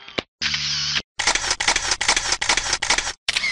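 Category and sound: machine, camera shutter click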